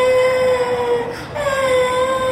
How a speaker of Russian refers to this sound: Ну, солнышко, ну плачь, все хорошо. Ты же не обожглась сильно. Все хорошо.